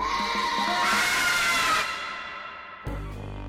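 A crowd of children at Just Imagine, a children's bookshop and story centre in Chelmsford, scream and shout together, loud and shrill, for nearly two seconds before the din drops away, leaving a low rumbling noise.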